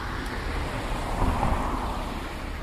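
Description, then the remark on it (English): A car passes by from left to right, its broad rushing road noise swelling gently toward the middle and easing off again, steady, with no voices present. “The car is passing on the left, and it's going to go to the right.”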